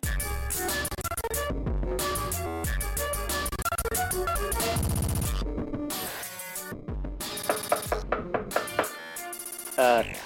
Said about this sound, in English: There's someone at the door now, maybe it's the pizza man again. Hang on, bear with me. Jeez, it's 11 p.m. Who could be knocking at the door at this hour?